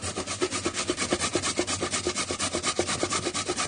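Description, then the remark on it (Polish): Carrots being grated for carrot spaghetti in quick, steady back-and-forth strokes, each a rough, raspy scrape repeating about three times per second, with no talking over it. “zetrzeć. To jest zazwyczaj ta najgorsza część robienia spaghetti z marchewki.”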